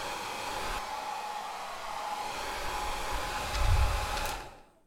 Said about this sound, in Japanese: ああ、今日はシャンプーの必要がないようにワックスはつけないでおくよ。ドライヤーだけで整えておくから。